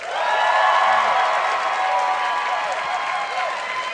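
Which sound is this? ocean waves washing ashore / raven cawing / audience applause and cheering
audience applause and cheering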